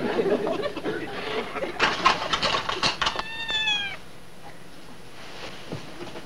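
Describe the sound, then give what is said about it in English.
A cat named Puff Puff gives one clear, drawn-out meow while eating, preceded by a stretch of rustling, clattering household noise, then near quiet with a faint background hum. “Well, you know, tell her she's a good cat and stuff like that.”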